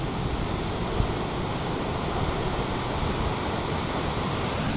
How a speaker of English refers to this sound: And I am down here on the beach, Gibson Steps, which is just a half a click down the road from the 12 Apostles. Levels are still way high. That noise, that thunderous noise, of course, is the ocean. Check it out.